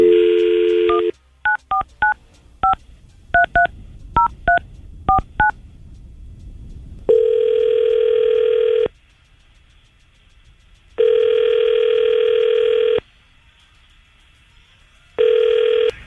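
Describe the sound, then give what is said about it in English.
A brief dial tone, then about ten quick touch-tone beeps as radio hosts at 99.5 QYK key in a woman's phone number, followed by steady ringback tones, each about two seconds long with pauses between, and no voices. “We're going to call her right now and get her on the phone.”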